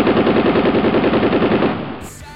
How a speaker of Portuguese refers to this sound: Daí o que o pessoal escuta lá dentro? O disparo de uma arma de fogo.